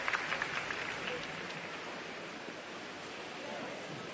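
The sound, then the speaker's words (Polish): A large crowd applauds in a steady, dense wash of clapping that holds at an even level for about four seconds, with a faint murmur of voices blended underneath. The applause follows Archbishop Tempesta's blessing with the Book of the Gospels at a Mass of the 28th World Youth Day on Copacabana beach, Rio de Janeiro. “I również oklaski.”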